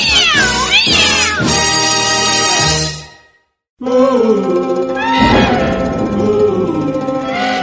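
Several cats meow and yowl loudly, their drawn-out, wavering cries overlapping in a continuous chorus that stops briefly and then resumes just as loud.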